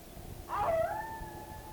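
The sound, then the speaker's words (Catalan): A wolf howls once in a forest, a long tonal cry that swells in, dips slightly in pitch and then holds steady, over a low, rumbling background with no voices. “Ai, veus? El llop, el llop!”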